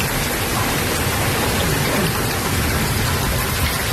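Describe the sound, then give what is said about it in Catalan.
Steady, heavy, long-awaited rain pours down in Catalonia in a dense, continuous hiss, loud for the whole stretch, with no voices and no letup in intensity. “La pluja, la tan esperada pluja que ha estat i és protagonista del dia.”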